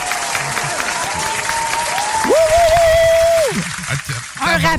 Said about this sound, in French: Ouais, bravo! Ouais, j'aurais pu mettre un effet sonore. Une bonne main d'applaudissement. Ah ouais, une bonne main.